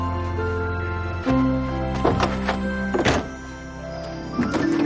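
A car tailgate slams shut with a solid, heavy thunk, followed by a couple more dull knocks, all over a steady, humming musical bed.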